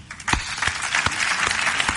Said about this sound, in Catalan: I des de l'Ajuntament de Sant Vicenç dels Horts us volem agrair, com no, el vostre esforç, el vostre exemple, i jo també, permeteu-me demanar un fort aplaudiment, però per tots i totes vosaltres.